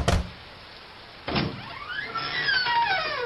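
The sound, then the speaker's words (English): Mrs. Foley's front door opens: a sharp click, then a soft thunk about a second later, followed by a long, drawn-out hinge creak that wavers up and down, with no voices. “Why are you going up to Mrs. Foley's front door?”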